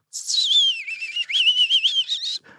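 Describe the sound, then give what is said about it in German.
A person whistles an imitation of a European robin's song, a delicate, high, warbling phrase with rippling, pearly trills that rise and fall, then stops abruptly. No talking. “Das erste war ein Rotkehlchen, so ganz zart noch.”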